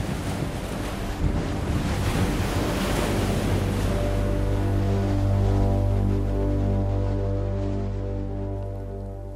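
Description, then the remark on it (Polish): Waves crash in a loud, continuous roar while wind howls over them, settling into a steady moaning drone in the second half. No voices are heard. “Fale biły o ściany, ziemia kurczyła się, w wybitych szybach hulał wiatr, przewracał puste karty księgi, nanosił śnieg, zeschnięte liście i ziarna gorącego piachu.”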